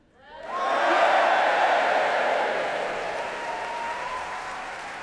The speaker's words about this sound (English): Their dedication deserves our gratitude and admiration, and I suggest you give them all a cheer.